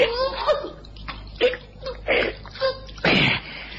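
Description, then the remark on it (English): Water splashes and sloshes in a bathtub as a woman struggles while being forced down into the water. Several irregular bursts come over a few seconds, the last one longest, with faint strained vocal sounds early on. “Don't make it harder for yourself. Down into the water.”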